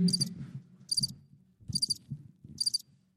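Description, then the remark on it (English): Crickets chirp in four evenly spaced, high buzzy bursts, each paired with a soft low thump, like a looped sound effect playing at a moderate level with no one talking. “Oh, there we go. That's it. The crickets.”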